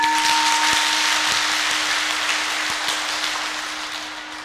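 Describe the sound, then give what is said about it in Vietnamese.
A crowd claps steadily in dense, sustained applause that fades slightly toward the end, with a low steady hum running underneath and no voices. “Nếu quý vị thấy lời đề nghị đó là cần thiết á và làm được thì xin cho một tràng vỗ tay nào.”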